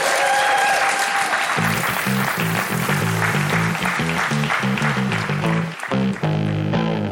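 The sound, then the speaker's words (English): A loud, sustained burst of audience applause for the act Police Cops fills about seven seconds without a break, dense and steady, with some low tonal music playing underneath. “Can we have a warm round of applause, ladies and gentlemen, for Police Cops?”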